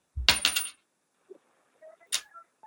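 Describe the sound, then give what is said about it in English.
A coin, tossed to make a pick with heads for Vancouver, strikes a hard surface with a bright metallic clatter, bounces with a few ringing taps, and spins down to rest with faint tinny tones. “Heads is Vancouver.”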